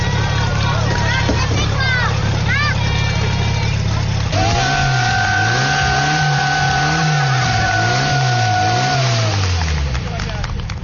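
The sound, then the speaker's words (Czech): A PS-12 portable fire pump engine, nicknamed Máňa, runs loudly with a steady low drone as young firefighters demonstrate a fire attack drill; its pitch rises and falls in a wavering, surging pattern while a thin whistling tone sounds above it. “Tak toto už je zvuk Máni, tedy tak se jmenuje PS-12, se kterou mladí hasiči právě předvedou útok.”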